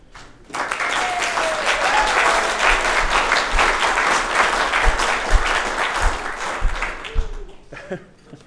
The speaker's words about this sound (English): But can I start off just by saying congratulations and a big round of applause again.